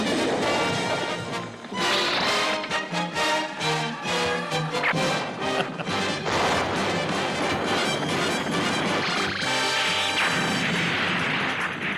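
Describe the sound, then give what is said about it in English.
The Star Blazers cartoon theme song plays loudly and continuously, full and brassy, with sharp percussive hits punctuating the opening seconds before it settles into a sustained, driving melody. No one talks over it. “Let's hear the song.”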